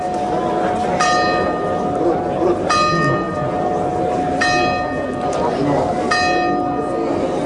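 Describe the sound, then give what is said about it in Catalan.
The bell in the church tower of Móra la Nova tolls eight o'clock during the town fair, four slow, evenly spaced strikes heard, each ringing out brightly over a steady background of crowd murmur and outdoor bustle. “Toquen les 8, el campanar de l'església de Móra la Nova.”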